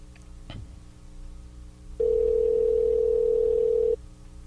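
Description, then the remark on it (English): A short click, then a single loud, steady Skype call-ringing tone holds for about two seconds before cutting off, with no one talking. “So let me get to Skype and call him, and we'll see what he's up to.”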